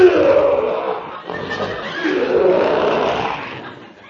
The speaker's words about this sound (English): That's that lion in that cage over there. Oh. Ferocious-looking beast, ain't he?